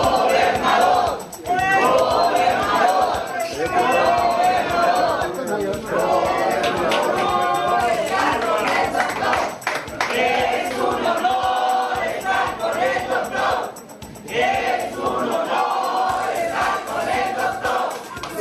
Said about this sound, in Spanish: Bueno, pues estos gritos de es un honor estar con el doctor, gobernador.